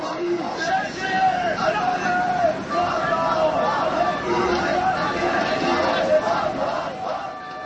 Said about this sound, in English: Loudspeakers blasted the sounds of a crowd of sports fans.